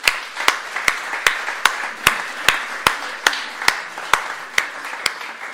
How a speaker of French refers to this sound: Regardez comme c'est impressionnant. Hein, bravo, on peut vous applaudir.